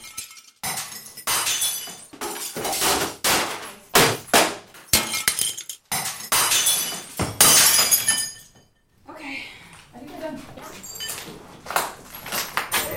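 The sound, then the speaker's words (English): Loud, irregular crashes of glass and electronics such as printers, keyboards and desktop computers being smashed, with sharp shattering bursts and heavy blows coming in rapid clusters, a brief lull, then more breaking and clinking debris. “We have some electronics, printers, keyboards, desktops that all have been cleaned and are safe to break.”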